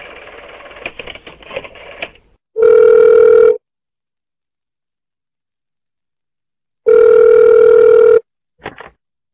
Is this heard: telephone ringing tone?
yes